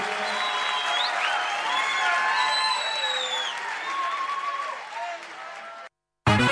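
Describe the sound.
Loud, sustained applause from a crowd, mixed with cheering voices and high whistles, holding steady for about six seconds before cutting off abruptly into a brief silence.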